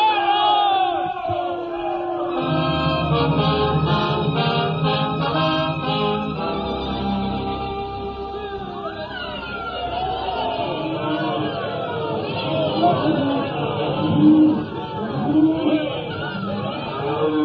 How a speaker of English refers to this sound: Like heroes we was riding that day into Abilene. People cheering and yelling. And us the mangiest, dirtiest bunch of cowpokes that ever come into town.